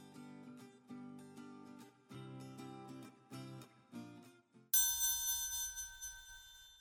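A short run of tinkling, chime-like notes plays in a quick rhythm, then a single bright bell strikes loudly and rings on, slowly fading. No voices are heard.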